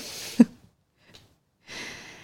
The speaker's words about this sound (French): Étire-toi. Et bâille si tu en ressens le besoin. Elle bâille.